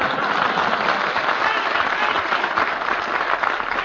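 Sustained audience applause, a dense wash of many hands clapping at steady loudness for the whole stretch, with no voices rising above it.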